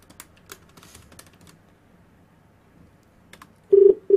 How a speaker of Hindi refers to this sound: Phone कर दिया, दोबारा मिलाओ.